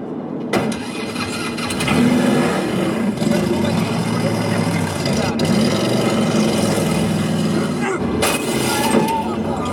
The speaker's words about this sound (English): What about your daddy's Viper? This beast's got 500 horsepower and a Borla exhaust system. It does 0-60 in like 4.3 seconds.